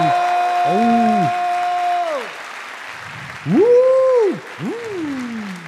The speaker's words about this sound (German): Und jetzt noch euer Applaus für Marc, der auf seinem dritten Date ist. Euer Applaus für Marc!